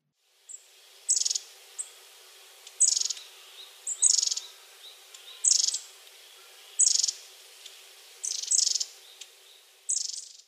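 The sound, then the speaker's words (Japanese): High, bright chirps of a warbling white-eye (mejiro) repeat in short bursts roughly every second, a small songbird calling steadily against a quiet background with a faint steady hum. “メジロです。”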